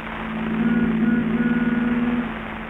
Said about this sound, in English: The Benny rehearsal has just finished, and Phil is driving Jack home in his new convertible.